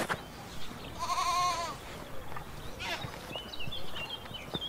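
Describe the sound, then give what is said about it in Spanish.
A sheep and two lambs: one wavering bleat near the start, followed by fainter higher calls and soft rustling. “En cambio, hay una oveja y dos corderitos.”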